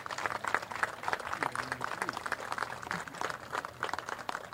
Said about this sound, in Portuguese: Uma salva de palmas para eles, porque eles merecem.